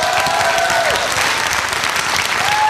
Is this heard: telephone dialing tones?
no